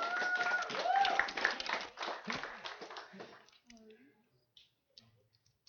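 An audience breaks into dense, steady applause with a few rising cheers mixed in, lasting about three seconds before thinning out into scattered claps and quiet.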